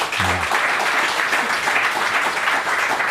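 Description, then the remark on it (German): Steady applause from fans as the Blue Devils coach speaks, a dense wash of many hands clapping at even loudness throughout, with a brief low tone at the start. “Merkst du das, sobald der Trainer was sagt, gibt es Beifall.”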